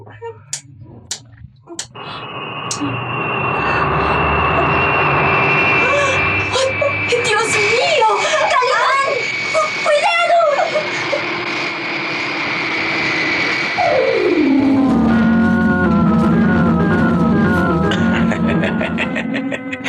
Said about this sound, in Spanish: Atención. Voy a poner en marcha los motores. ¡Cuidado, Calimán! Dentro de un instante, sabremos si podremos huir o pereceremos aquí. Los motores van a moverse.